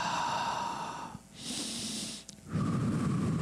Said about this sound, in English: how many of us have ever lived a long day and just took a very deep breath?